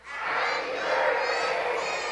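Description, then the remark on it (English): A large audience shouts happy birthday together, a loud, sustained roar of many voices that rises quickly and holds for about two seconds. “I just want you guys real loud to yell out happy birthday so that when he goes back to listen to this, he'll get to hear that.”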